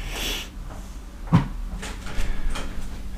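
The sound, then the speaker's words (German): A single solid thump of a door being shut by a person, preceded by a brief rushing swish, then quieter rustling and faint handling noises. “Tür auch noch zu, macht sie auch noch zu.”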